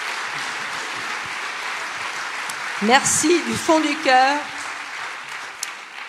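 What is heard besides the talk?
audience applause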